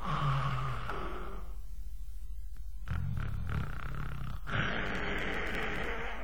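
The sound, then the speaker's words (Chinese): A voice imitates the loud snoring of the character Li Kui: a long rasping inhale, a pause, then a rougher rumbling snort and another drawn-out snore, heavy, with no talking. “不知道啊，就那黑不溜秋黄头发那大个子，这呼噜谁受得了啊？”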